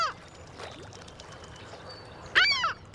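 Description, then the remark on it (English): A herring gull gives a loud, harsh call near the end, following a brief cry at the start, over a faint watery background with no talking. “Hollow bones help birds like this herring gull sail around in the air without using much energy.”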